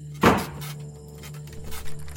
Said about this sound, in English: Oh, the ominous letter and self-slamming door weren't enough?